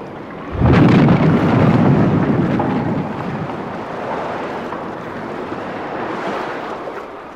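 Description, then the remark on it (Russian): A schooner with a dead engine is run onto a shoal in a storm and slams aground with a sudden heavy crash, followed by a loud roar of wind and churning water that slowly subsides. No one speaks. “Придется выбросить шхуну на отмель. Всем держаться! Сейчас ударит!”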